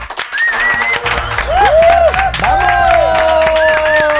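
A large crowd claps loudly and steadily, with high whoops, whistles and cheering voices rising and falling over the dense applause for the whole stretch.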